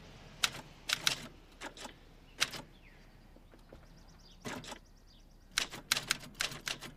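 Sharp clacking of typewriter keys struck in irregular bursts, with pauses between flurries of taps, close and fairly loud, plus a faint mechanical whir in a quiet room.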